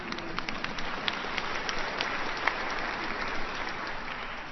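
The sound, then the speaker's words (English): An audience claps steadily during a sermon about Jesus, a dense wash of many hands with sharp individual claps popping out over a continuous, fairly loud texture. No one speaks. “Yes, you can clap if you want.”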